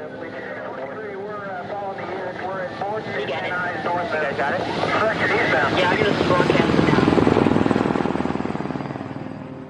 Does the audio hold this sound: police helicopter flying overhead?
yes